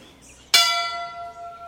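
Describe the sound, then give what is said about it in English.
A single clear strike of the front entrance bell at Hemingway's home, Finca Vigia, a museum in Cuba, rung by the museum director; its bright metallic ring sustains and slowly fades. It is fairly loud, with no voices. “And I ring the bell for you.”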